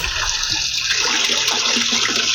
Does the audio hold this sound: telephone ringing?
no